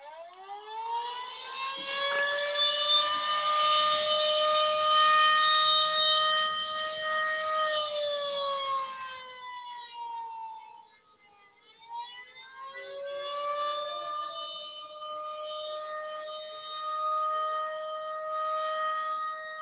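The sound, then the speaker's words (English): A loud, wailing siren-like alarm, called the "fruit bat alarm" on a talk radio show and signalling that the host is going to the phones, rises in pitch, holds a steady harmonic tone, dips and fades briefly, then swells back up and sustains again, with no voices. “Y'all, that's the fruit bat alarm.”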